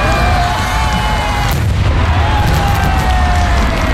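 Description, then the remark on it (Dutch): A giant 460 kg firework shell, a world record as the heaviest firework ever, explodes in Japan with a loud, deep boom that rolls into a long, dense rumble and crackle filling the whole stretch, with no voices. “Een raket van 460 kilo werd tot ontploffing gebracht.”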